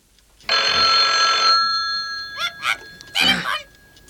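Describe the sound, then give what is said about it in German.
A loud telephone bell rings in a bright metallic burst of about a second, its tone lingering before a few shorter, choppier rings follow. “Die drei Detektive saßen in ihrer Zentrale, als das Telefon klingelte.”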